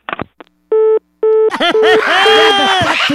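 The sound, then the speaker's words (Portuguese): Two loud, steady beeps of a telephone busy tone after the other party threw down the phone and hung up, followed immediately by loud, wavering, warbling vocal sounds that fill the rest of the moment. “Não, jogou o telefone.”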